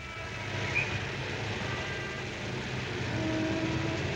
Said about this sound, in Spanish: Los cinco amigos circulan por las calles de la ciudad en un coche de policía conducido por Murray.